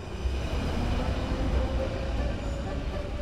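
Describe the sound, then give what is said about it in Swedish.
A Brussels metro train heading into the city centre rumbles along steadily, a dense low roar of wheels and motor with a faint hiss above, continuous and fairly loud throughout. “Jag lämnar Hans Bergman och direktoratet för klimatfrågor och tar tunnelbanan in mot Bryssels centrum igen.”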